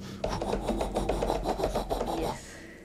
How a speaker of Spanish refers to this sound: Era su perro, desesperado, afuera de su cuarto, arañando la puerta.